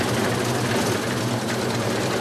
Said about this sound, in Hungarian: Így aratnak ma légkondicionált kombájnnal.